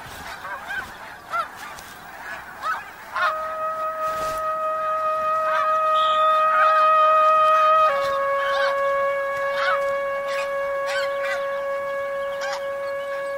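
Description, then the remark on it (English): A crowd of geese at a ground-nesting colony honk and call repeatedly, their cries overlapping; after a few seconds a steady, sustained musical tone swells in beneath them and continues to the end. “Here, geese can nest on the ground in relative safety.”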